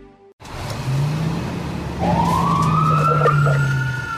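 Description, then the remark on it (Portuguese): A fire truck siren winds up, rising in pitch over a steady low engine drone, loud, with no voices present. “Sempre que você precisa, você chama os bombeiros.”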